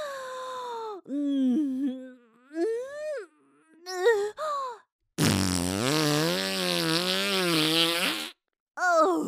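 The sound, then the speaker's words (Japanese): A long, loud, buzzing, smelly fart of about three seconds, wavering in pitch, comes after several short moaning vocal sounds, with one more brief moan at the end. “ほら見て、おなら出るとこ見て、肛門もっこり広がって臭いガスブーって出ちゃうの。”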